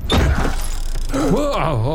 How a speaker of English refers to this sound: He just kicked in the doors like they're saloon doors, but they're not saloon doors. They're regular doors.